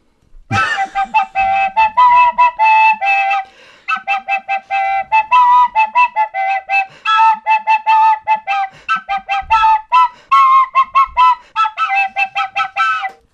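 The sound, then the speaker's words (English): A penny whistle plays loud, a bright, reedy tune of quick tongued notes hovering around a narrow range of pitches, with brief pauses between phrases and no talking. “So you just tape up the holes to make a drone pipe.”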